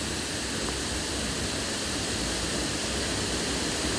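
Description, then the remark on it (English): A steady, dense roar of rushing water, loud and continuous across the whole stretch: a stream falling over flat rocks down a 15 to 20 foot drop into a circular rocky whirlpool, with no voices. “The rocky facade of the whirlpool is flanked by green mosses and ferns, which are being licked by the mist coming off the water that's falling down over the rocks.”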